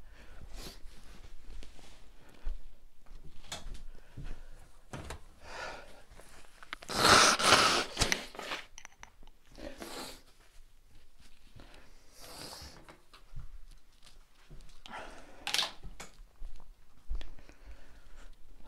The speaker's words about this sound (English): Sorry, I realize I have the microphone on me, so you guys got like an ASMR of me blowing my nose or whatever.